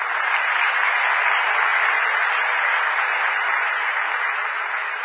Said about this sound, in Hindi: 40 साल से ज्यादा भी कोई बैठे हैं? ग्रेट, बहुत अच्छा, ताली बजा दो।